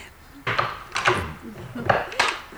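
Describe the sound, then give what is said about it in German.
A few short metallic rattles and clicks as a door chain is slid free, followed by the soft thunk and creak of a door opening. “Einen Moment, ich löse die Kette.”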